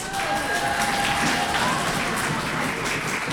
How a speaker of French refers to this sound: Et enfin, pour terminer ce présentoir, je vous demande d'applaudir les élèves de Victor Prouvé.